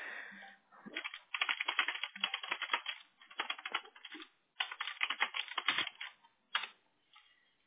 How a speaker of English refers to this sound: He's typing back to me.